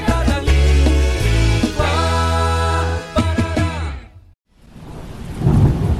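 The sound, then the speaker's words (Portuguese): Heavy rumbling and a thick wash of sound give way, after a brief near-silent gap, to a steady hiss like rain falling outside. No one speaks. “já que você não pode brincar lá fora por causa da chuva, senta aqui que eu vou lhe ensinar um jogo.”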